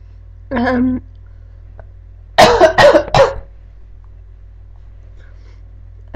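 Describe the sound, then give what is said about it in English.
A brief throaty vocal sound, then a quick burst of three loud coughs in a row from a person with a cold, followed by near silence. “By the way, I have a bit of a cold, so if I sneeze or cough or snivel my nose, or if you can't hear me very well, I'm sorry.”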